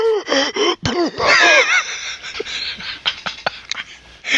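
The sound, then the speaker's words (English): A voice imitates the harsh, wheezing cough of someone who is sick: strained, raspy gasps and hacking bursts, loud at first and trailing into choppy, breathy wheezes. “And you said she sounds like she's trying to cough out her soul.”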